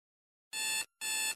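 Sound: alarm clock ringing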